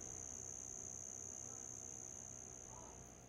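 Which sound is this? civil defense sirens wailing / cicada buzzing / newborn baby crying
cicada buzzing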